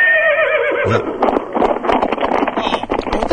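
A loud horse whinny with a wavering, quavering pitch, quickly followed by a rapid jumble of hoof clatter and rustling noise that fills the rest of the moment.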